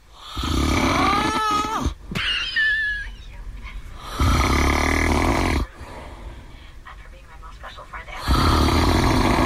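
Loud, rough snoring in repeated long, rattling breaths, with high, wavering whistling tones rising over the rasp at the close of some snores; a recorded snoring contest entry.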